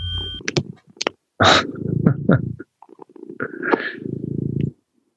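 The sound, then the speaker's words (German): A cat purring on someone's lap in a home, a loud, low, rhythmic rumble that comes in long stretches, broken by a few sharp rustles and clicks. “Das Schnurren hört man gut.”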